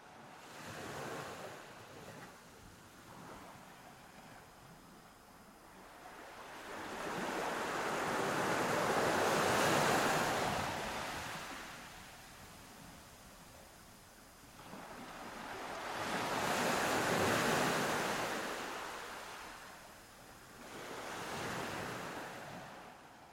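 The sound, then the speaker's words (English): Ocean waves and surf in the coastal waters of the Northeast Pacific Ocean swell and recede in slow, broad washes, three rushing surges about seven seconds apart, with a soft steady hiss between them and no voices. “It is an absolutely wonderful and serene experience to be floating down here in the ocean.”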